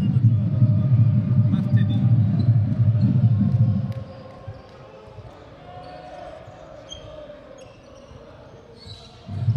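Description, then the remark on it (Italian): Basketball dribbling on a court at the PalaVangano as Rossato dribbles, stops and shoots a three-pointer, a fast run of bounces for about four seconds over arena noise, then a quieter crowd murmur before noise swells again at the end. “Rossato, palleggio arresto e tiro da tre, che emozioni, che partita, 73-72 per la Givova.”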